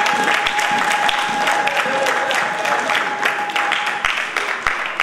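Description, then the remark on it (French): An audience applauds steadily for about five seconds, a dense, even wash of clapping with a few sharper individual claps standing out, and no one speaking over it. “Est-ce que quelqu'un peut donner une main d'acclamation pour toi?”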